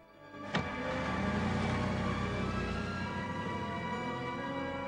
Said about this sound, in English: As the limo drives away,